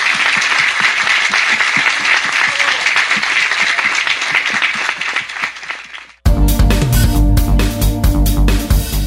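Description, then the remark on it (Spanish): A council audience applauds the President of the Republic and the federal government steadily for about six seconds, a dense, sustained wash of clapping that fades slightly before cutting abruptly to loud music. “yo pediría que hoy este consejo le dé un aplauso al presidente de la República y al gobierno federal por la sensibilidad que han mostrado.”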